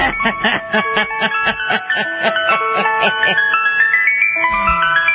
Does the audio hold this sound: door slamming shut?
no